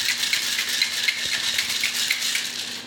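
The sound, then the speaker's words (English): A cocktail shaker rattles steadily while mixing an autumn bonfire cocktail of scotch, bitters and a little maple syrup, ice clattering in a fast, continuous bright rhythm for a few seconds with no talking over it. “Shake it up.”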